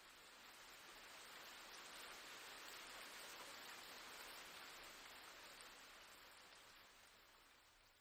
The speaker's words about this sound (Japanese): あ、見て、雨止んできたやん。